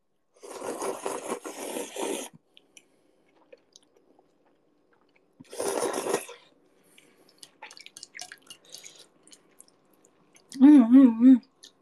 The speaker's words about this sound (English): What? Does my slurp intimidate you guys? I'll just slurp louder then.